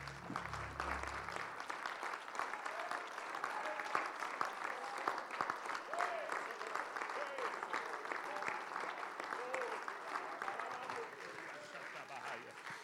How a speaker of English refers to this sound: Praise the Lord. Would you give the Lord a hand clap of praise? Isn't he good?